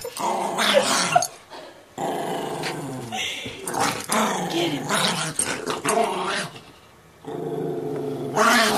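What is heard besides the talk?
dogs growling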